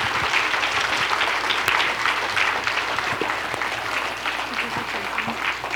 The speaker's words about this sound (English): As they're taking their chairs down, you guys can hand me your mics and just give them a round of applause for coming up here and being brave.